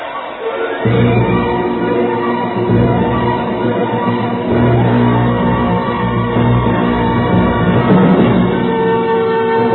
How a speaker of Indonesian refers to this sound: Prabu Jayanegara berteriak-teriak, tapi manusia bertopeng kayu tak memperdulikannya